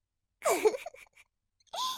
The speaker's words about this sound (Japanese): せきこんどる、せきこんどる。